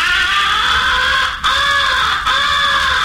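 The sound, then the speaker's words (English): Three long, harsh, drawn-out crow caws imitating a crow recognition call on a crow call, loud, each nearly a second long with brief breaks between, heavy with a pleading accent, imitating a crow locating an owl or in distress. No one speaks. “After the crows have turned and are coming to your blind, switch to the second essential call, the recognition call.”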